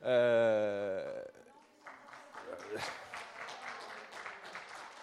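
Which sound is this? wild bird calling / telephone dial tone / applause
applause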